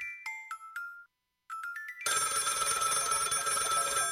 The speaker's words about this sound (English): The phone rings.